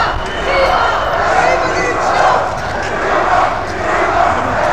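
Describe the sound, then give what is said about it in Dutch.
A crowd of demonstrators who have left a building shouts and chants together outdoors while marching arm in arm in a block into a street, a dense, continuous roar that swells and dips in waves, with footsteps and movement mixed into the noise. “Nou, de mensen uit het pand zijn in een demo en nou, je kan horen wat ze roepen.”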